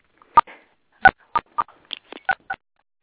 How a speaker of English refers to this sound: Okay, I hear all the beeps.